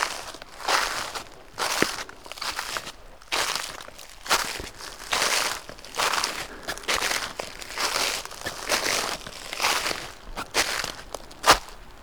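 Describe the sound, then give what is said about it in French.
Footsteps crunch steadily through a thick carpet of dry dead leaves in the mountains before the first snows, each step a crisp, rustling burst in an even walking rhythm, with no voices. “Avant les premières neiges, ce tapis de feuilles mortes.”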